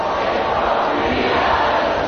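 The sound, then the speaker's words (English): A huge outdoor crowd of about 65,000 people in London's Hyde Park sings along in unison before a rock concert, thousands of voices blending into a dense, steady roar that stays loud and unbroken throughout, with no single voice standing out. “Listen to this. That's the crowd.”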